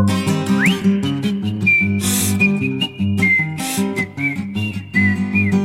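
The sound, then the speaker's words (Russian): A clear, high whistled melody with sliding notes plays over a steady instrumental backing with bass and occasional bright cymbal-like bursts, loud and close throughout. “Ёжик резиновый шёл, насвистывал дырочкой в правом боку.”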